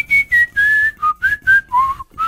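A person whistles a short melody of clear, sustained notes that step up and down in pitch, about eight phrases in quick succession, fairly loud with no talking.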